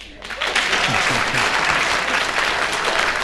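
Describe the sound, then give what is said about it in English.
An audience bursts into sustained applause, voting by clapping in answer to a host's question, a dense, steady wash of many hands clapping that swells quickly and holds loud throughout, with a few faint voices mixed in. “If so, clap.”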